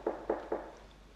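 Three quick, evenly spaced knocks on a door, dull and fairly muted, followed by a faint quiet room tone with no voices.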